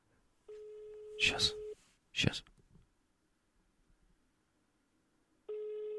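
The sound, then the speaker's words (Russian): A steady telephone ringback tone of an outgoing call buzzes for about a second, then falls silent for several seconds before sounding again. A voice briefly speaks over the first ring. “Вдруг это мы Жене звоним, да?”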